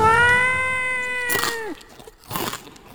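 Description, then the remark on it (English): A cat lets out one long, loud, drawn-out yowl that holds steady and then bends down in pitch, followed by a couple of brief, breathy, noisy bursts. “While the big bad cat stole his tea.”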